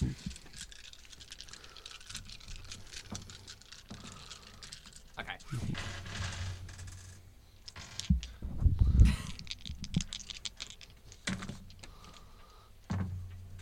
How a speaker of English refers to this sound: Yeah, let's get some dice ASMR.